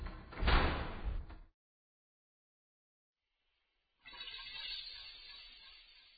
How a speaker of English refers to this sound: Then somewhere from inside the lamp, a door slammed.